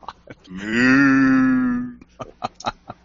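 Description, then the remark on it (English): A single drawn-out cow moo from a Minecraft Mooshroom toy keychain, a cow with mushrooms, lasting about a second and a half and loud, followed by a few faint clicks and taps. “It's a Minecraft keychain. Courtesy of my kids. This is the Moo Shroom. It's a cow with mushrooms.”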